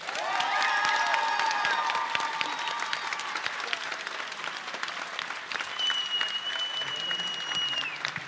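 Sustained, dense applause from a large audience with whoops and high whistles rising above the clapping, holding steady at full volume throughout.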